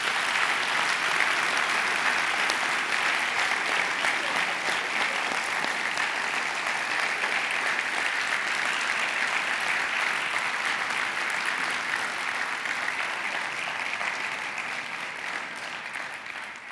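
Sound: audience applause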